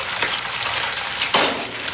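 An egg sizzles steadily in a frying pan in a 1980s anti-drug television ad. A dense hiss of fine crackles and pops swells briefly louder about two-thirds through. No voices are heard.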